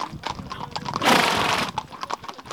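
An 11-year-old mare, ridden by a 12-year-old girl on a trek, walks along with hooves clopping in a steady, uneven rhythm, broken midway by a loud breathy rush like a snort before the hoofbeats continue.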